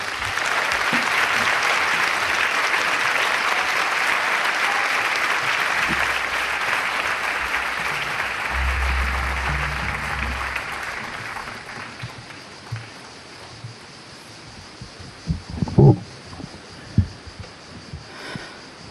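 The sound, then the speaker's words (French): A large audience at the Festival d'Avignon, in the Musée Calvet, claps steadily for the actors and musicians on stage, a dense, sustained wash of applause that gradually thins out and fades, leaving scattered claps and a few soft knocks near the end. “Nous retrouvons en direct du musée Calvet au Festival d'Avignon les comédiens et les musiciens que vous pouvez applaudir, ils sont sur le plateau.”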